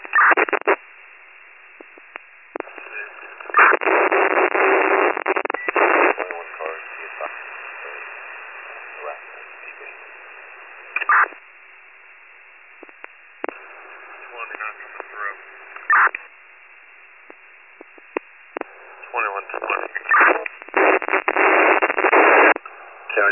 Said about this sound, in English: Did you hear the last transmission? Is he readable? He's unreadable for me as well.